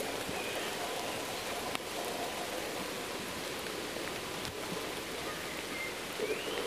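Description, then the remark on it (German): Steady splashing and pattering water, like rain falling on a surface, fills the whole stretch at an even level with a few sharper drips standing out; no voices. “Passiert ein Plätscher oder irgendwie was da hinten? Also ja, Plätschern tut es auch, aber ja.”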